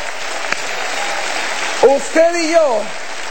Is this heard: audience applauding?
yes